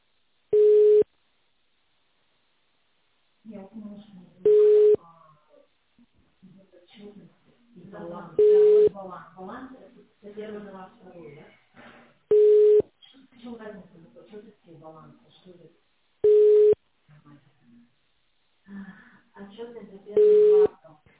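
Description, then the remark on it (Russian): A telephone ringback tone sounds six times, short steady beeps spaced about four seconds apart, while people talk quietly in the gaps; the call rings on without being answered. “Ну, там нет никого.”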